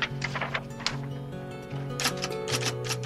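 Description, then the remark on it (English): Rapid, irregular clacking of keys on an old manual typewriter, sharp strikes in quick bursts over a soft, sustained musical tone. “I started off typing on my father's, it was an antique even then, Underwood.”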